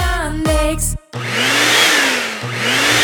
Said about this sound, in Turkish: Çok para verdiniz diye bu elektrik süpürgesinden çok şey beklemeyin.